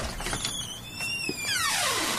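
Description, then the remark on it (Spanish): A heavy jail cell door creaks slowly open, its hinge giving a long, high, wavering squeal that bends upward and then slides down in pitch, fairly loud with no voices. “Despacio, la puerta se abre”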